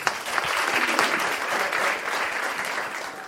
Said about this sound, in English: A round of applause.